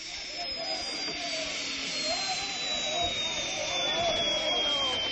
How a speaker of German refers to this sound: Und dann, am Abend des nächsten Tages, kam der Hubschrauber wieder. Er landete auf einem Felsvorsprung in der Nähe des Raumes, in dem die Kinder gefangen gehalten wurden.